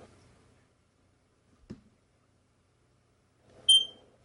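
A single short, high-pitched smoke detector low-battery chirp rings out near the end, preceded by a faint thump and quiet background noise, with no one speaking.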